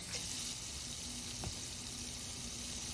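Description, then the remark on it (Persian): A tap runs steadily with a continuous, fairly loud rushing hiss of water, unbroken for the whole stretch, with a faint low hum underneath and no voices. “آره خب میدونم آب داره میاد.”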